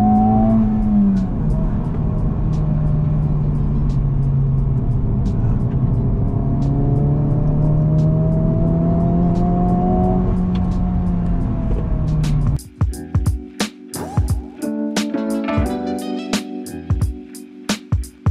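A sports car engine revs hard and climbs in pitch for about twelve seconds, then a rapid series of sharp electronic beeps from the shift-light alert, signalling the right moment to change gear, sounds over the idling engine.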